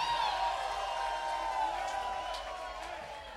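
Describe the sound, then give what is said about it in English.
A large concert crowd in Dallas, on a tour stop, cheers and screams nonstop, a dense, loud roar of many high-pitched voices that holds steady and eases off slightly toward the end. “By far the loudest crowd on this tour, so give it up for yourselves.”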